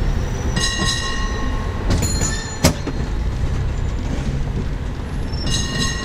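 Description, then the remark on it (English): A cable car rolls along its rails with a steady, heavy rumble, high metallic squeals rising near the start and end, and a single sharp clank partway through. No one speaks. “And when I was there, I managed to jump on and have a chat with a guy who told me all about the history of cable cars.”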